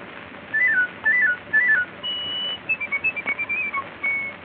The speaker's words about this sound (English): The bird-like warble of the piccolo.